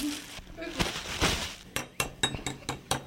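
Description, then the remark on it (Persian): Bowls and dishes clink as they are set out for serving ash (soup) to guests, a quick series of sharp ceramic knocks and rattles in the second half, after a stretch of muffled handling noise. “بچه ها کاسه ها رو بچینین که واسه مهمون ها آش بریزیم نوش جون کنن.”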